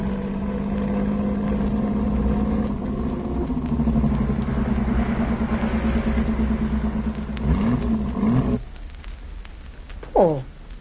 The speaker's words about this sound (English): Well, let's park the car here and walk down the road. Yes, I think that's a good idea, if we can find a spot.